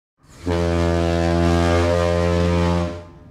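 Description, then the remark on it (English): A single loud, deep foghorn-style blast, the SpongeBob bed alarm sound, holding one steady low droning pitch for about two and a half seconds before cutting off. No one speaks. “I'd make the SpongeBob bed alarm sound. Right into his ear to wake him up.”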